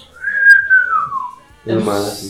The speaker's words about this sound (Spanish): Sí, pero no así como chiflar bien. Como gente que chifla. Chiflar.